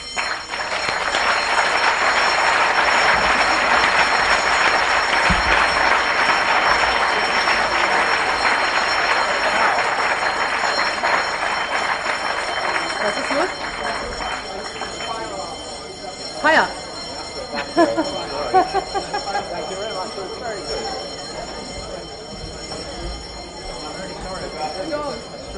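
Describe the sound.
A loud, continuous fire alarm bell rings steadily in a building for about fifteen seconds, then fades back while people's voices and murmuring fill the room.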